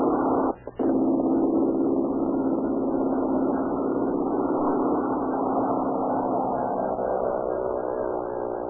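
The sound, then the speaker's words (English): A small red propeller plane's engine drones loudly and steadily as it takes off and climbs over Southern California, a rough, buzzing roar that holds at full power throughout, with a brief dip near the start. “Little mechanical red bird skims across the green of the air drone, sees the top of the grass, and falls toward the heavens.”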